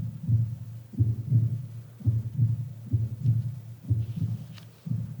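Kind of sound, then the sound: sound effect, heartbeat sound effect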